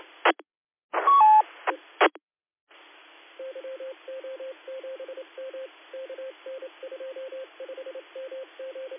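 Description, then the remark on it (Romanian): Radio tone: a few crackly bursts of static, then steady hiss carrying a clear mid-pitched beep that pulses on and off in quick, rhythmic groups, like keyed Morse code. “Am nimerit tonul, asta era important.”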